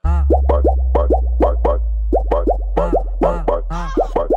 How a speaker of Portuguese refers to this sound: Olha o barulho da, olha o barulho da, olha o barulho da água.